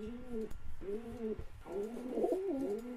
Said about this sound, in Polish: sąsiad, który mieszka obok i jest bardzo starszym panem i po którym bardziej spodziewałam się takiej reakcji, to powiedział w pewnym momencie tak, no tak, ten gołąb tak tutaj nam się kręci, no to bardzo ciekawa sprawa.